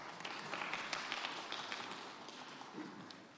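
A crowd claps steadily, a dense wash of many overlapping hand claps with scattered sharper slaps, fairly quiet and continuous throughout with no voices on top.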